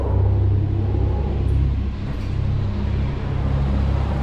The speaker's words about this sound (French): Et j'ai déambulé dans cette station, en me cachant des rames de métro qui passaient.